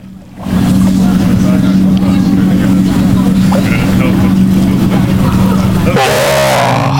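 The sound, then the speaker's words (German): A steady, loud motor drone with a strong low hum runs nearly continuously from a boat engine on a lake, then shifts abruptly near the end with a brighter, rushing sound. “Oh, nee, man hört wahahrscheinlich nur das Boot jetzt gerade.”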